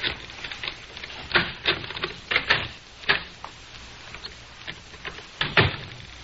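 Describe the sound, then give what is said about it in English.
Tape being wound around an old baseball bat by David and Ricky in the Nelson family's living room: sticky ripping and crackling bursts that come in uneven pulls, some sharp and loud, others softer, with no voices. “David and Ricky are taping up an old baseball bat.”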